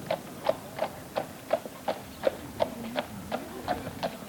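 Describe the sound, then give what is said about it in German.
The hooves of a horse-drawn carriage clip-clop at a steady walking pace on a car-free island, about a dozen crisp, evenly spaced strikes against a quiet background, fairly faint, with no voices. “Man riecht die Bäume und das Wasser, hört die Tiere und Menschen, sieht Sandwege und Pferdekutschen.”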